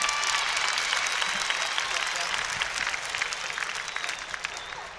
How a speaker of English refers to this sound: Right on, give Tommy another great round of applause.